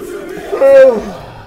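A long, drawn-out yawn from a single voice that swells to a loud, strained middle before sliding down in pitch and trailing off into a softer breathy exhale.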